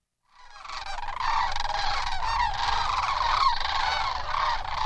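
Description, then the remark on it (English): A large flock of sandhill cranes, each bird about 4 feet tall, touches down at a wildlife preserve near the San Joaquin River, calling in a dense, continuous chorus of overlapping rattling bugles, loud, rising in at the start and holding steady with a low rumble beneath. “A huge flock of sandhill cranes, each bird 4 feet tall, is touching down at a wildlife preserve near the San Joaquin River.”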